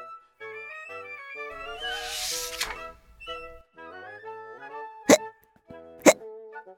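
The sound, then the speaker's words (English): Two sharp, sudden hiccups from Kipper after having a drink pop out about a second apart over light, tinkly background music, each short and punchy, following an earlier soft rushing, bubbly stretch. “He had hiccups.”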